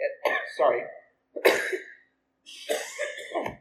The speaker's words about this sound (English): I got this weird cough, and it's just like it comes up inside you and forces you to do it, whether you want to or not. So if that happens again, please forgive me.